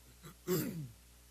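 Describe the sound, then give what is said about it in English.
A single throat clearing, fairly loud, a short rough burst with a brief softer lead-in just before it, then quiet. “I'm not bothered by the coughing or the clearing of the throat.”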